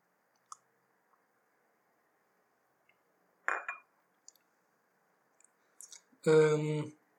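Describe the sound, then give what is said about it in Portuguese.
A few faint glass clinks and clicks, then a brief slurping sip of water, followed by a short voiced exhale after swallowing. “Vou só dar um golo d'água.”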